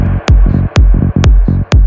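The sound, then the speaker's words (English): A loud, heavy electronic bass drop: booming low thumps with downward-sweeping tails pulse in a steady beat, punctuated by sharp bright hits, with no talking. “Now you need a fat ass drop.”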